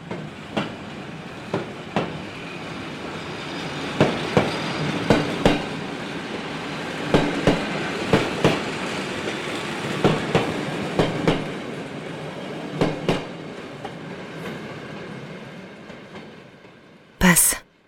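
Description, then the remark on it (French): A train rolls past on the rails with a steady heavy rumble, punctuated by a regular clickety-clack of wheels over track joints, ending in a brief sharp burst of noise. “Rien que le chant des oiseaux et le grondement des trains qui passent.”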